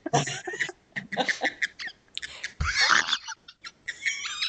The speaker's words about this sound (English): I can hear the bird laughing. Let me take him away.